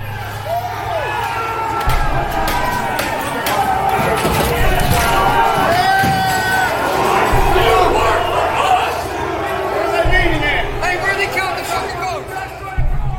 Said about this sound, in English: Shortly after 2 p.m., droves of rioters fully breach the Capitol building. They smash windows and climb through, and soon after, they force open doors.